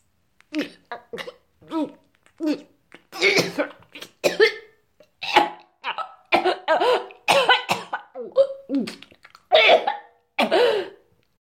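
A long run of harsh, violent coughing, more than a dozen ragged, wet-sounding bursts with gagging retches, loud, in uneven clusters with brief gasps between and no words; a woman coughing up blood after a whole bottle of caustic soda is poured into her mouth.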